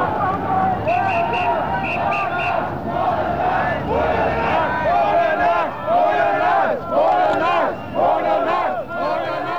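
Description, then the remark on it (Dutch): A crowd of demonstrators on a protest march chants slogans at police headquarters in loud, rhythmic unison, voices rising and falling in repeated phrases, with a steady background hubbub and a few brief high tones early on. “De demonstranten beperkten zich tot het roepen van leuzen, zoals bij het hoofdbureau van politie.”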